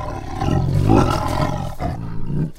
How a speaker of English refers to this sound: don't look now, but there's a tiger in here with us. Oh, Reading Bug, you're right. There is a tiger in here, and he's enormous. He's orange and white with dark brown stripes, and he's staring right at us.